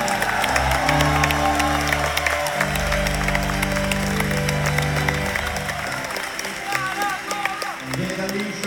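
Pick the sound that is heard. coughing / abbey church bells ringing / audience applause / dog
audience applause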